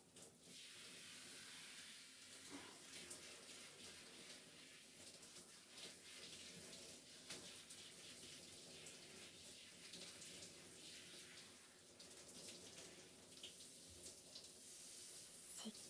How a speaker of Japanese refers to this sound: 汚れはちゃんと浮いてるはずだから、今度はこれを流してシャワーを。OK、 それじゃあ一旦流すよ。